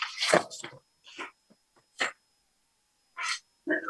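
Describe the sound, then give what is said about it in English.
A sudden, forceful sneeze bursts out during a public meeting, followed by a few softer, scattered breathy noises and short rustles. “Bless you.”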